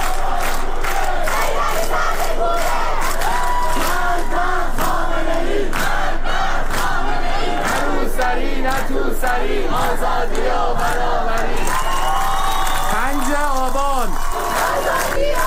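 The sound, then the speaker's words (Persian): A large protest crowd at a night demonstration in Tehran, in areas including Narmak and Shahrak-e Chitgar, filmed on Thursday, chants and shouts loudly and continuously, many voices overlapping in rhythmic bursts, with sharper individual cries rising above the dense roar. “تصاویر ویدیویی دریافتی پنجشنبه از تظاهرات شبانه در نقاط مختلف تهران، از جمله در نارمک و شهرک چیتگر، با شرکت جمعیتی کثیر خبر می‌دهند.”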